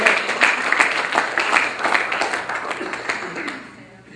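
Steady, dense applause from a sizable audience, many hands clapping at once, holding strong for several seconds before gradually thinning and fading toward the end.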